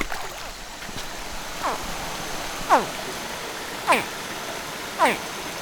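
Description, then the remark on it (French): Steady rushing of flowing river water, heard while people walk along the river, fills the background, fairly soft and continuous, while a few short, sharp descending chirps pop out above it about once a second. “Donc on marche le long de la rivière.”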